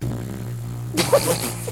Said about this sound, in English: That's what the horn in Inception is. It's not. It's a fart.